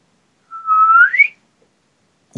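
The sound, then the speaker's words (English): A person whistles a single clear note that slides upward in pitch over about a second, fairly loud, followed by silence and the brief onset of another sound at the end. “That whistles.”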